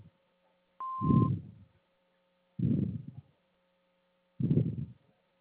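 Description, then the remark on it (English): A single short electronic answering machine beep sounds, steady and mid-pitched, followed by three low muffled thumps spaced a couple of seconds apart over a faint background hum. No one speaks. “and phone number after the beep.”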